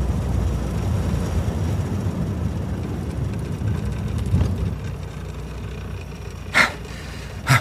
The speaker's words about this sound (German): Nachdem Peter in die Pearl Street abgebogen war, entdeckte er 50 Meter weiter eine Parklücke und brachte dort den MG zum Stehen.